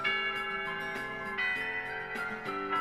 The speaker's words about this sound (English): At the same time, the chimes to mark the end of classes echoes through the hallways. I miss class again. I listen to the chimes in disappointment.